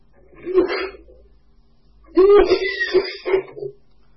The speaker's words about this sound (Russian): что ты там кашляешь так?